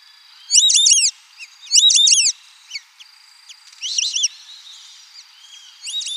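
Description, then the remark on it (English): White-faced whistling ducks in Brazil calling in bursts of high, clear multi-note whistles, loud and repeated about four times, with softer overlapping whistles and a faint steady tone between the bursts. “Here are some white-faced whistling ducks in Brazil.”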